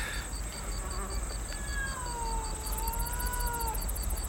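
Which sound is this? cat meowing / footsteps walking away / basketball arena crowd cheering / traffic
cat meowing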